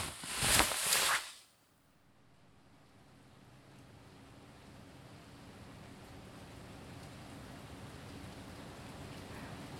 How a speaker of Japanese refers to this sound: 雨の音を聞きながらお布団に入るのはやっぱり格別ですな。